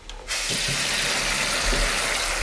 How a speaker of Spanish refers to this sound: Abro el grifo. Cierro el grifo. Bebo agua.